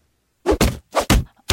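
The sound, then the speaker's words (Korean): A rapid flurry of five heavy thuds and smacks of punches landing on a person being beaten in an alley, loud with short decaying tails, irregularly spaced and with no voices. “골목 근처에서 누군가가 퍽퍽 맞는 소리를 듣고 흠칫 놀라 골목 뒤에 숨어서 귀를 기울였다.”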